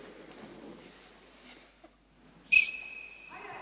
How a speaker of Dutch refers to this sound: Ik heb wat meegebracht. Weten jullie wat dit is misschien? Wat is dat? Een fluit. Een fluitje. Zouden jullie het doen? Ja? Wil je proberen? Wie wil proberen?